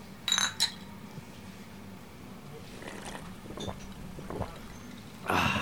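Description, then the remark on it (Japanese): A couple of bright glass clinks ring out close together at the start as highball glasses of Maker's Mark whisky are touched in a toast, followed by quiet room noise, faint murmurs, and a brief rustling burst at the end. “やっぱり飲み金ということで、はい、今日もやっぱり MM、 そうですね、 メーカーズマークのハイボールで、はい、乾杯しちゃいたいと思います。”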